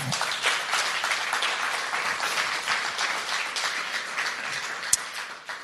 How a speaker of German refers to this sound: Und vielleicht geben wir denen mal einen Applaus.